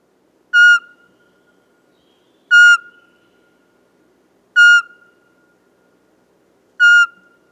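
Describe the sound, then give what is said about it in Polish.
A Eurasian pygmy owl sings four soft, clear single whistles, evenly spaced about two seconds apart, each short note ringing alone against a quiet background. “Jej śpiew tworzą pojedyncze miękkie gwizdy, wydawane średnio co 2 sekundy.”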